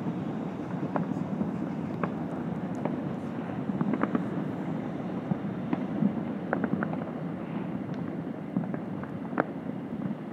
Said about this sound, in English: It's endless rumble. And a train. Everything going on.